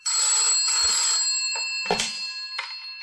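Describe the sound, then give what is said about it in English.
An old-fashioned telephone bell rings continuously with a bright metallic jangle, loud, with no voices. “It was around midnight when the phone rang in Eric Masters' flat.”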